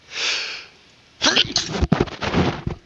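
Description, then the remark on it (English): A breathy, hissing intake followed by a pause, then a sudden loud sneeze that knocks the sneezer's headset off and runs straight into excited talking. “I sneezed my headset off.”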